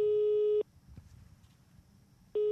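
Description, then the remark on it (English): A telephone call tone after dialing from a public phone booth: a steady electronic beep sounds for about half a second, falls silent over faint low background noise, then starts again near the end. “goes to a public phone booth, and texts out Florence's number”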